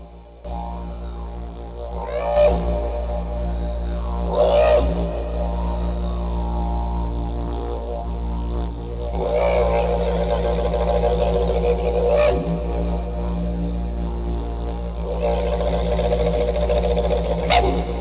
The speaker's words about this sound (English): We're going to go out with the Didgeridoo so appropriately for the land of Oz and the rest of the land in this whole entire world, this playground of life.